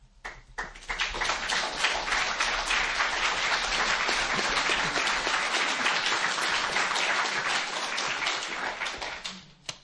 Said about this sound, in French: Les applaudissements disent combien nous avons besoin d'être réveillés dans ce constat et de nous laisser réappeler.